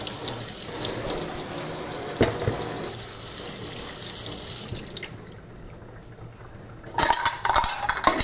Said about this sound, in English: Let's see, we're gonna have to get the green beans rinsed and ready.